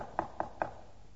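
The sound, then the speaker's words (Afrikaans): Three quick, evenly spaced knocks on a door, fairly quiet and heard alone, each a short hollow rap followed by a brief trailing resonance. “in daardie tyd van Jakobus, een geweldige berou en sielewroeging, was daar een klop aan die deur.”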